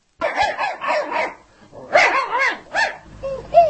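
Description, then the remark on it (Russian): A dog barks in several quick, loud bursts, pausing between volleys, then breaks into a high, thin whimper at the end. “Собака, друг человек.”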